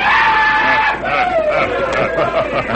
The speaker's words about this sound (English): Time after time, they heard a familiar yell.